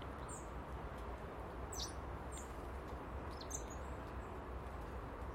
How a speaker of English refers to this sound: Loads of birds about this morning.